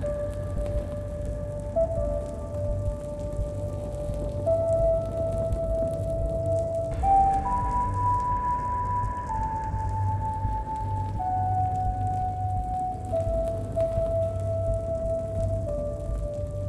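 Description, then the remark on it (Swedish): A clay ocarina plays a slow tune of sustained, breathy pure notes that step up and down in pitch, with a steady low rumble underneath and no talking. “Jag spelar på min lergök.”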